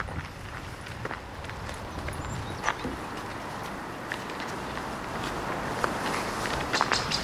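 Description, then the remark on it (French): Steady footsteps crunch along a path in an even walking rhythm, with occasional sharper scuffs and a faint bird call in the background; no one speaks. “On a l'impression qu'il y a quelqu'un derrière nous alors que c'est nos pas.”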